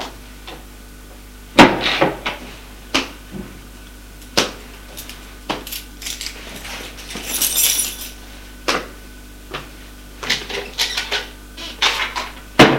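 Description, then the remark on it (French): A bedroom door being opened, with a series of sharp clicks, knocks and light metallic clinks scattered irregularly over several seconds against a low steady hum, with no voices. “Il ouvre la porte de sa chambre, les fait entrer.”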